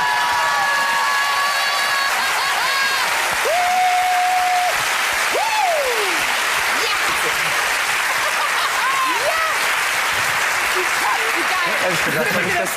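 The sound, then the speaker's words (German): Loud, steady applause from a large crowd fills the whole stretch, with several sharp whistles and rising cheers cutting through the dense clapping. “Klatsch und Boom!”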